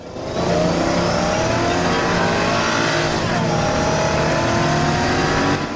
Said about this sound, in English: A brown car follows Kathy's Dodge as she hits the road and drives away from the site.